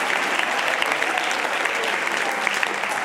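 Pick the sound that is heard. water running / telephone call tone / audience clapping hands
audience clapping hands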